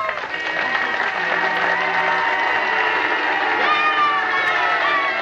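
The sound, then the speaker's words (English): A large crowd of fans in Oskaloosa in 1961 cheers and shouts continuously for Carl King, with car horns honking and blaring through the din, the whole wash of noise staying loud and steady throughout. “A year later, fans in Oskaloosa showed their respect by cheering and honking their horns.”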